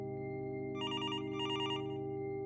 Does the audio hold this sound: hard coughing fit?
no